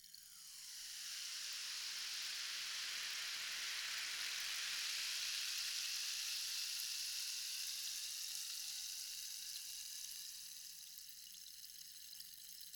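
A steady fizzing hiss, like a freshly poured carbonated drink bubbling, swells in over the first second, holds bright and crackly, then eases slightly near the end. No voices.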